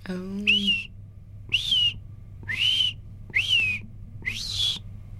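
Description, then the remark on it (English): A person whistles an imitation of a red-eyed vireo song: five short, high, slurred phrases, each separated by a brief pause, over a low steady hum. “And then the red-eyed vireos.”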